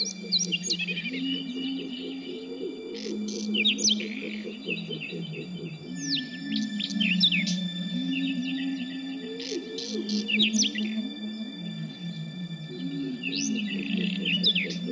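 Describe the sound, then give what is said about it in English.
Bright, scratchy Northern wheatear song: quick chirps and trills that come and go in bursts, set against a steady melodic instrumental backdrop with sustained tones. “we'll hear a little bit from this star of the underground from … now. This is ….”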